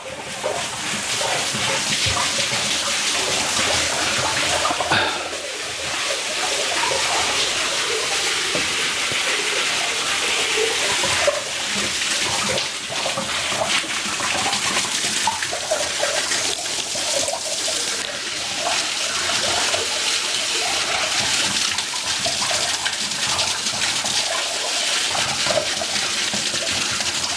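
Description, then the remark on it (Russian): Spring water flows steadily into a bathhouse pool at a consecrated spring beside a chapel, with baths for men and for women; a loud, continuous rushing and splashing without pause, with faint movement and echoes behind it and no talking. “Купальня находится для мужчин, для женщин. Давайте зайдем и испробуем водиться в источнике.”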